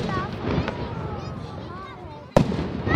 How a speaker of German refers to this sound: Wir befinden uns jetzt vis-à-vis vom Münster. Die Böllerschüsse sind schon von weitem zu hören.